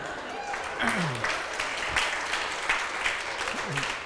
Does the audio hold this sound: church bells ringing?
no